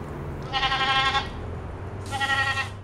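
animal, goat bleating

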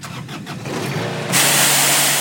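machine, lawnmower engine starting

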